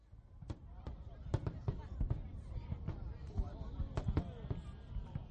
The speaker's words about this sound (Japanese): 流れてきたのは独立記念日の花火の音。今からおよそ5時間前に打ち上げられました。25分間に4万発、ものすごい迫力、そして目を見張る美しさです。